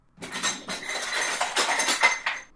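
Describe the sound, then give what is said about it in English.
Pots and pans clatter and clank in a busy, irregular jumble of bright metallic knocks and scrapes, steady and moderately loud throughout, with no voices. “What she was doing with the pots and pans I couldn't entirely imagine, but then I hadn't read all of Raven's books.”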